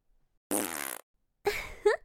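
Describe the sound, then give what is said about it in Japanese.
Two farts let out into a closed room, with no talking: first a steady buzzing one lasting about half a second, then after a short pause a rougher, sputtering one that ends in a higher squeak. “私の食べたものからできた臭いおならで目いっぱい深呼吸しちゃってね。”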